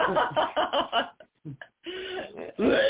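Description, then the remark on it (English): A run of coughing and throat clearing: several rough, rasping bursts in quick succession, a short pause, then more hacking and throat clearing that ends in a louder, harsher cough. “A lot of coughing going on.”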